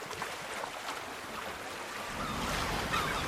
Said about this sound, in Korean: 둥글둥글 갯바위들을 타고 넘는 파도 소리가 가야금 소리와 같다고 해서 영금이고 정자 같은 풍류가 느껴진다고 해서 정자가 붙었다.